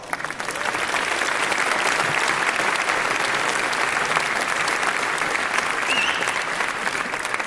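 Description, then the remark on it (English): Sustained audience applause welcoming a speaker about to talk on research into online US political advertising, a dense crackle of many hands clapping at steady loudness for several seconds, with no voices standing out above it. “So please give him a great round of applause.”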